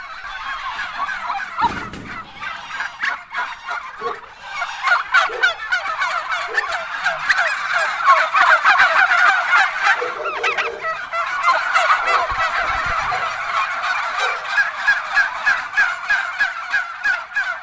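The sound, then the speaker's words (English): A flock of bronze turkeys in a farm yard gobbles continuously and loudly, overlapping calls rising and falling in dense, rattling bursts, with no talking. “Ah, look at them. Bronze turkeys, are they? Bronze turkeys.”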